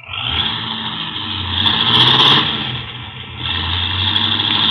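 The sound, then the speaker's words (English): A car engine roars loudly as the car, whose brakes barely hold, speeds away, revving up to a surge midway before settling into a steady, hard-driven drone. No one speaks. “Golly, he's certainly in a hurry. With them brakes the way they are, he'll kill somebody if he ain't careful.”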